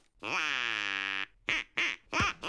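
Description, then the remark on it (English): A duck quacks loudly: one long, drawn-out nasal quack followed by three short, clipped quacks in quick succession, with no talking. “And just to prove we're serious about this, we've got a duck. And we're not afraid to use it.”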